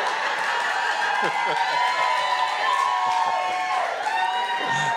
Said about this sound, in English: You guys are booing, but you know it's true.